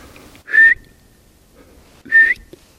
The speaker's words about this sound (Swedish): Nu ska jag vissla på den så vi får se om han stannar.